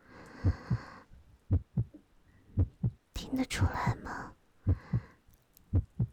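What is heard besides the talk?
heartbeat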